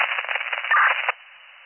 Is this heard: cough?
no